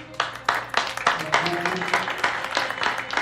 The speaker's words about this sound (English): He even got the whole kitchen to clap.